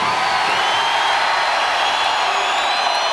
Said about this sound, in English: You sound like a very energetic crowd.